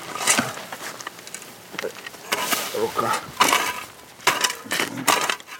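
Shovels bite into gravelly earth again and again as two people dig up a buried body showing bits of uniform, on ground a Ukrainian soldier has checked for mines: an irregular series of crunching scrapes with faint clinks of stones between strokes.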